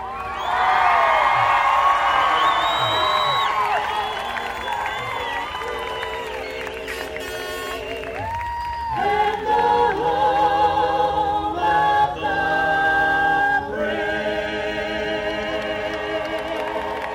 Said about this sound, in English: Ocala and Marion County, we are so proud to have our troops home, the 351st MP Company. Now let's hear a real cheer.